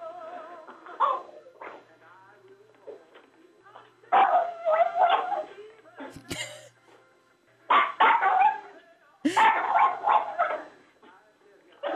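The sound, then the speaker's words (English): A dog named Buster howls along as if singing, with a phone held close to him, several long wavering phrases that rise and fall in pitch, fairly loud, separated by short quiet pauses. “See if you can put the phone close to him where he'll sing.”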